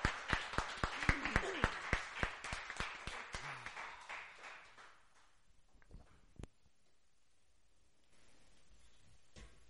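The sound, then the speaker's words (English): An audience claps and cheers together for the Lord, a dense burst of applause with a wash of crowd voices that thins out after a few seconds into scattered claps and quiet. “Give the Lord a cheer.”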